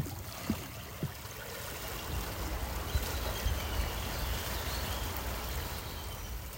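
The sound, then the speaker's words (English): Ocean water laps and sloshes around rocks at Whale Park at low tide in a steady, soft wash, with a few brief splashes standing out near the start. No voices are heard. “Now I'm sitting on the rocks surrounded by the ocean and eagles, and I timed this just right because the tide is low enough”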